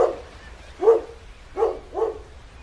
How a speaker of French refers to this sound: Au petit matin, des aboiements frénétiques réveillent le jeune garçon. Il découvre un chien qui semble lui demander de l'aide.